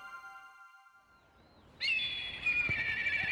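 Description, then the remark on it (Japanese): After a quiet stretch with faint, steady high tones, a bird, called a crow here, bursts in with a loud, drawn-out cry that rings close and carries on to the end. “カラスはのんきでいいぜ。”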